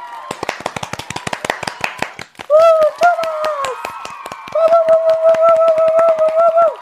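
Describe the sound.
Brisk, steady hand clapping from two hosts applauding live in thanks for the show's opener runs throughout, sharp rapid claps, while voices call out over the applause in sustained, raised tones through the second half.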